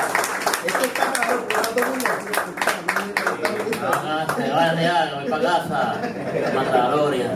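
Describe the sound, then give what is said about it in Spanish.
Two guests clap their hands in a quick, uneven burst for several seconds while voices talk and laugh over it before the clapping gives way to chatter. “Ellos aplaudan para que se sientan.”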